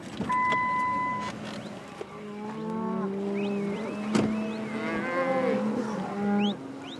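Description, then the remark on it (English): Several cattle moo repeatedly and overlap, some loud, others softer, over the steady low hum of a stopped car, with a brief electric whine near the start, in cattle country in Sublette County. “This is cattle country, oil and gas country, and sage grouse country.”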